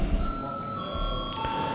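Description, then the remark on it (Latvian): A sustained electronic bell signal calling a vote rings out as a steady, high-pitched tone with a second shrill overtone, holding for nearly two seconds over a low background rumble, before a vote on approving a NATO Parliamentary Assembly delegation. “Lūdzu zvanu.”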